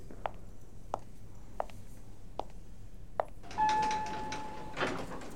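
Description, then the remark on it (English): A few evenly spaced footsteps approach, then an automatic bookstore door slides open with a rushing whoosh while a steady electronic chime tone sounds for about a second. “Oh, you'll hear that sound when the doors open at the bookstore.”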